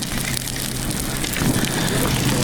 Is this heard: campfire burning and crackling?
yes